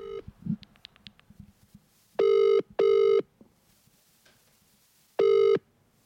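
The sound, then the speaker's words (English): A phone line's ringing tone as an outgoing call is placed to a man: a loud, steady mid-pitched buzz rings twice in quick succession, then once more after a pause, with faint clicks and beeps beforehand. “Right, let's give him a buzz here now.”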